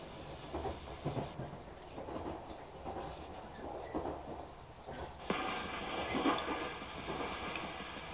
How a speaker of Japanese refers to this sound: お待たせいたしました。今日も東海道新幹線をご利用くださいましてありがとうございます。この電車はのぞみ89号岡山行きです。